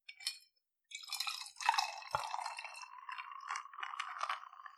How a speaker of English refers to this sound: First, add your limoncello. I'm adding 2 ounces of limoncello, followed by 3 ounces of my sparkling white wine, and I'm using Prosecco.